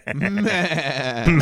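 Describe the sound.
A person imitates a goat's bleat with a single loud, wavering 'meh' lasting just over a second, its quavering vibrato rising at the very end.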